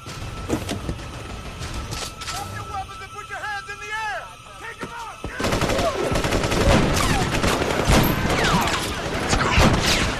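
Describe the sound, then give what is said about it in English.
Rapid, overlapping bursts of gunfire crack out in a chaotic shootout outside a bank as assassins open fire on Jack and the others, who take cover behind a vehicle. The shots are sparse at first, then become a dense, loud barrage, with voices shouting. “Jack and the others take cover behind a vehicle as the assassins open fire on them”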